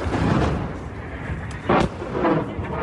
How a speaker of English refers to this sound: Evidence is building that Russia's naval headquarters sustained significant damage. More video footage appears to show a follow-up missile striking the already damaged building, causing a large explosion.